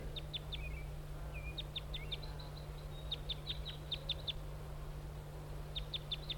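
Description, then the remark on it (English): A wild bird perched on a spruce across a road gives repeated high, sharp flight calls in short bursts of two to four notes, with a few lower buzzy notes mixed in, over a steady low hum. “Pointing at the wild bird. He's perched on a spruce across the road now.”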